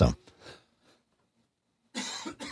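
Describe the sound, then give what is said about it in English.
A person coughs: a sharp burst at the start, a short quiet gap, then a louder, harsh double cough near the end. “Oh, I hit my cough button, but I didn't hit Pete's, so you heard me.”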